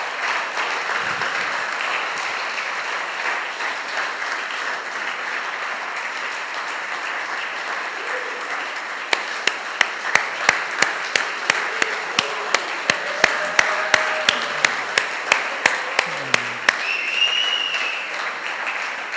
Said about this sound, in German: Begleitet diese jungen Menschen mit einem kräftigen Applaus.